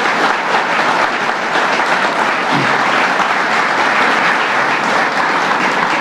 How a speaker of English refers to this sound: Did you guys hear the partnership, the resources that's going to now be available right here on the east side of Buffalo? I believe that deserves a round of applause.